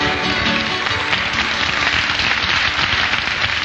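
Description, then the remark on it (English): Audience applause breaking into a live song performance: a dense, steady wash of many hands clapping together, loud and even throughout with no voices over it. “That ruins the dramatic effect when you applaud.”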